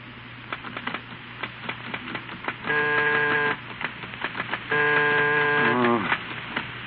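Irregular clicks of typewriter keys clatter over a steady low hum as a man types his new book in the late afternoon, twice interrupted by a loud, sustained buzzing tone before the typing resumes.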